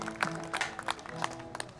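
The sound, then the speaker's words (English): A handful of sharp, isolated hand claps, a slow clap from a band's banjo player on stage at a show in Mayville, in a loose, unhurried rhythm, fairly quiet over a low steady hum, with no voices. “I got here a slow clap developing from one of my bandmates.”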